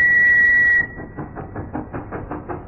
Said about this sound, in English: Behind you, sir. I think there's a train that wants to overtake.